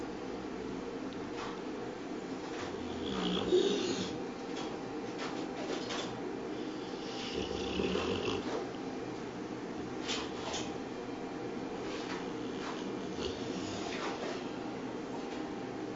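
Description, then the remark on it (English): A dog with upper airway obstruction snoring while relaxed and trying to sleep, in rough, rasping bursts that come irregularly, with stretches of strained, blocked breathing between them, fairly faint beneath a steady background hiss. No one speaks. “And if you can listen carefully, you can hear that when he can breathe, there is quite a lot of snoring going on.”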